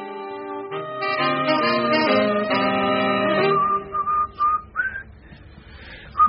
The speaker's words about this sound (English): Please, Rumpole, don't whistle at breakfast. Oh, sorry, Hilda. I just feel unexpectedly cheerful.